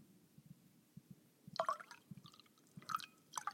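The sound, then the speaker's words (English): Oregon Pinot Noir is poured into a glass: soft glugs and splashes, with bright liquid blips rising in bursts over a low, uneven patter, and no one speaking. “pour a glass of this Oregon Pinot Noir.”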